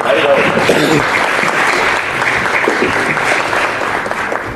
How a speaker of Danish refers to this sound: Skal vi være enige om, og vi klapper efter hver hele dag, eller også gør vi det?